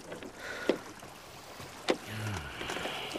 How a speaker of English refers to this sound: They took a boat out. I followed.